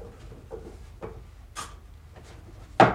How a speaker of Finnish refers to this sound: avaa raskan tammioven. Kaappi on täynnä komeroita ja laatikoita, joista yksi on vedetty hieman auki.